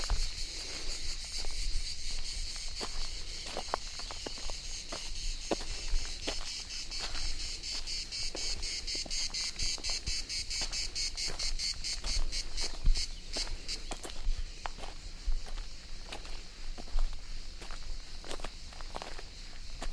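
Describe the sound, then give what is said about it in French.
Cicadas chirr loudly and continuously, their shrill buzzing throbbing in rapid pulses and swelling in places, with faint crackling clicks scattered underneath and no voices. “Je ne sais pas quel est le mot précis pour les cigales.”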